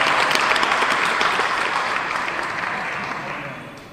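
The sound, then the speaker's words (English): A crowd applauds for a man, dense overlapping claps forming a loud, even wash of noise that slowly fades toward the end. “Okay, let's clap for him.”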